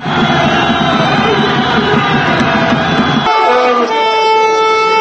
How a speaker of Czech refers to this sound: Uz zvuke vuvuzela i petardi i uz glasno skandiranje na stadionu u najvećem albanskom selu na jugu Srbije u Velikom Trnovcu počela je fudbalska utakmica između lokalnog kluba Trnovac i kluba Nebeski anđeli koji čine pripadnici Vojske Srbije.